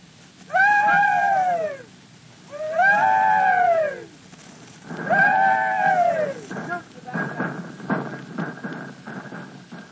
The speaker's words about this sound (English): we'll have the rebel yell broadcast on the radio for the first time in history